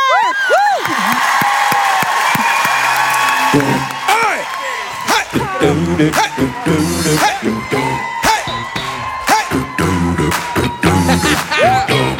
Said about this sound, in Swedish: För jag tänker, istället för brudvals så kallar vi in en person som är väldigt bra på att dansa och som ska få oss alla att dansa. Nämligen en stor applåd